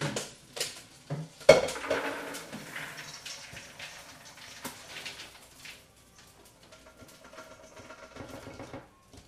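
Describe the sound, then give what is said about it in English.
A metal pot clanks and knocks a few times as it is carried over to a sink, followed by a steady hissing rush of liquid being poured from the pot into the sink, with faint clinks and no talking. “I'm going to take this over to the sink and pour.”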